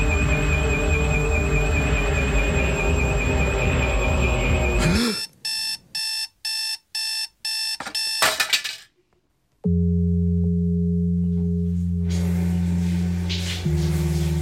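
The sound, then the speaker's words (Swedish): A fire alarm rings in a home as dark gray smoke seeps from the laundry room, growing louder in a dense blare, then breaks into a fast run of about six sharp electronic beeps before giving way to a steady low hum. “Brandlarmet låter högre och högre.”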